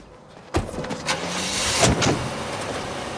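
Three people get into a car and drive off: a sudden thud, then a steady, broad rush of engine and road noise that swells slightly and stays loud to the end. No one speaks.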